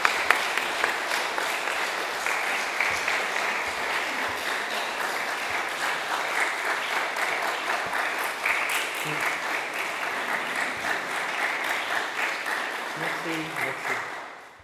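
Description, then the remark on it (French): An audience in a temple applauds for a second time, steadily for about fourteen seconds, a dense crackle of many hands clapping that holds an even level, then fades quickly at the end. “Et puis on n'a pas eu l'habitude d'applaudir dans un temple, on l'a déjà fait une fois, mais je vous propose de réapplaudir une deuxième fois.”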